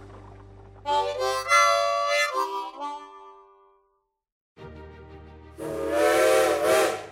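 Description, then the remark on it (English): A steam train whistle sounds two loud, sustained blasts separated by a short pause, its rich chord-like tone backed by hissing steam, with no voices. “All aboard! Boy, I love trains.”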